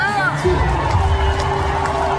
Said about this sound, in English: Yeah. Listen to those cheers.